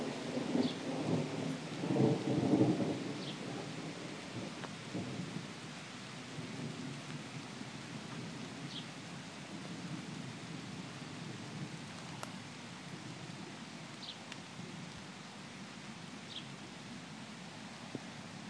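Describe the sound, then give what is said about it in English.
A deep rumble of thunder rolls through in the first few seconds, then fades into steady, even rainfall, with a few faint high chirps scattered over the rain. “Lightning comes.”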